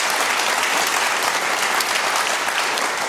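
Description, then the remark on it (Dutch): A crowd claps steadily for about three seconds, a dense, even wash of applause from a sizable audience, fairly loud, with no one speaking over it, welcoming Lex Kersenmarks, departing commercial officer at Volvo Cars in Sweden. “Dames en heren, even een applaus voor Lex Kersenmarks, scheidend commercial officer bij Volvo Cars in Zweden.”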